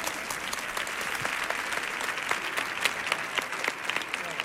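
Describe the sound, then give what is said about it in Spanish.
The audience of a show applauds steadily for several seconds on the host's call, a dense wash of clapping with many sharp individual claps popping out, holding an even, fairly loud level without any talk over it. “Fuerte el aplauso”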